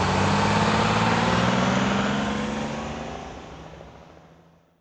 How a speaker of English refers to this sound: Is this the bus to the beach? Yes, quick. Get on. The bus is leaving.